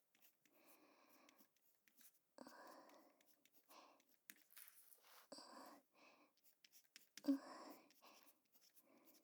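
Soft scratching of a mechanical pencil writing on notebook paper in short strokes, heard up close alongside a quiet whispering voice.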